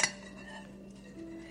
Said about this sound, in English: You hear the clinking of dishes and the distant murmur of voices in a home once filled with warmth